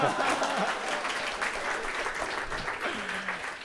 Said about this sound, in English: And so this is the first time you're clapping for the people before I thank them.